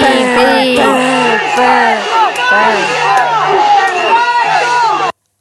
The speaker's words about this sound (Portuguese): Respeito! Respeito! Respeito! Respeito! E batem panelas.